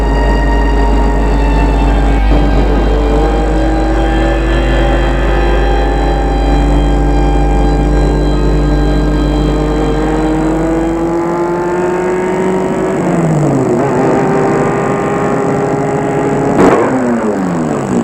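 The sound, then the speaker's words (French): A car drives steadily along an empty road following the coast, its engine humming continuously, the pitch climbing gradually and dipping as it shifts, with a low road rumble underneath and no talking. “Il roule en suivant la côte.”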